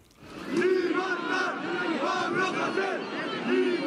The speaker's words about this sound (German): Libertad Pablo Hasél. Mehrere hundert Demonstranten fordern Freiheit für den Rapper und ziehen durch die Straßen von Barcelona und anderen katalanischen Städten.